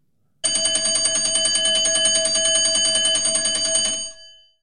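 A loud electric school bell rings continuously for about four seconds at 4 p.m. at the end of the school day, a rapid metallic clatter with a steady buzzing tone, then cuts off and fades with a brief ring-out.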